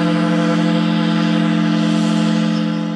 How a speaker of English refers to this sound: An old factory whistle symbolizes the changing times in Kellogg in the Idaho Panhandle.